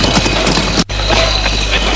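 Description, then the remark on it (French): Horse hooves clip-clop on a street in a steady rhythm, loud, over a dense wash of busy street noise, with a brief dropout partway through. “Les rues encombré de chariots, de chevaux.”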